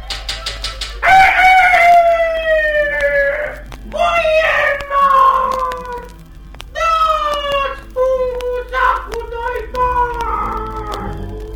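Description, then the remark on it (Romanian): A rooster crows four times in quick succession at a landowner's (boyar's) window, each call a loud, strained, high cry that slides downward in pitch, with only brief gaps between them. “Apoi se duce iarăși la fereastra boierului și iar începe.”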